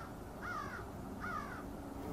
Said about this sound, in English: We can hear some birds, of course. We can hear some traffic noise from Highway 7, quite distant. The most interesting thing, of course, is the birds at this time of the day. You can hear them in all directions.